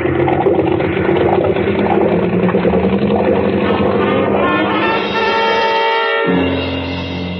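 A loud, steady drone from a boat's two big engines, deep and continuous with a rumbling low end, briefly cutting out near the end before resuming. No voices.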